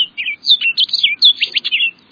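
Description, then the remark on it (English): An orchard oriole sings a rapid, jumbled run of bright whistles and chattering notes, clear, with varied phrases tumbling one after another over about two seconds. “But, busy as he was, the birder president took time to list 91 bird species he saw, or heard, on the White House grounds, including that orchard oriole.”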